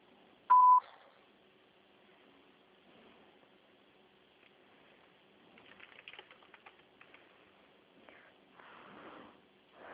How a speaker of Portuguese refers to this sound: Sua chamada está sendo encaminhada para a caixa de mensagem e estará sujeita a cobrança após o sinal. Após o sinal, grave sua mensagem.